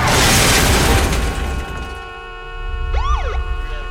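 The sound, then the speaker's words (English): A car turning into an intersection swerves around an oncoming car and crashes head-on into a truck: a loud, broad crash roars for about a second and a half, then fades into steady ringing tones, with a rising and falling siren wail sweeping in near the end. “He turns into the intersection and swerves around an oncoming car, crashing head-on into a truck.”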